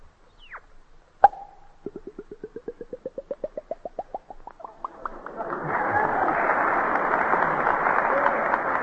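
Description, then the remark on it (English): A voice imitates a bottle being opened: a sharp mouth pop, then a quickening run of rising glugs like liquid filling the bottle, ending in a long, steady broad hiss. “And now, if you're thirsty, I'll open up a bottle.”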